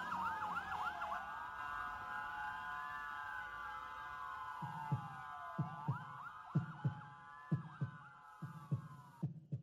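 A siren wails and sweeps up and down throughout, and about halfway in a heartbeat effect begins: deep paired thumps in a steady lub-dub rhythm beneath the siren.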